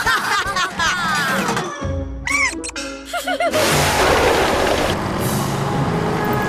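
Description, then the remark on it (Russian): A heavy bus engine rumbles, then a loud, sustained hiss of air brakes takes over, with a brief clatter and some voiced sounds early on. “Думаешь, твоя жалкая машинка сможет остановить мой ниндзя-автобус?”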